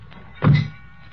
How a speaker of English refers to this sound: Okay, heave it in. Slam the doors.